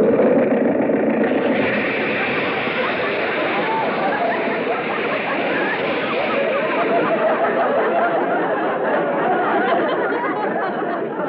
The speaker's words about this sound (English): the radiator blew its cap. See if you can fix it. Well, the motor sounds okay. You can turn it off.